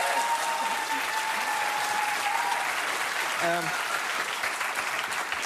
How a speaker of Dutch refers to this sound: En dat is dit boek. Deel 2 alweer. Ja. Van de verwarde cavia. Klopt. Ja, dat is een applaus.